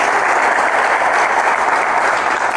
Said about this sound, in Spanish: ¿Se encuentra? Pero igual vamos a dar un aplauso a ella.